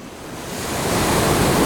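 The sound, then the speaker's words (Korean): Ocean waves break on a surfing beach in Yangyang in a steady, broad wash of surf that swells gradually louder, continuous, with no voices. “서핑을 사랑하는 당신도 그저 파도가 좋은 당신도 꽤 오랫동안 듣기 어려웠을 이 소리.”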